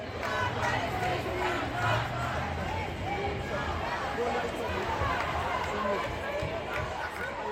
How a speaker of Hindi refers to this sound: Paris के प्लास दे ला Republic में जुटी जनता की भीड़ बता रही है कि इस जीत का कितना महत्व है।